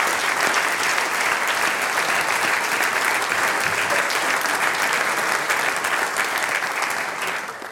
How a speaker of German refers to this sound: Das ist sein Papa. Und der ist heute natürlich mit der Familie da. Auch dein Papa kriegt jetzt einen Applaus. Er war Harmonikasieger im Jahr 2001.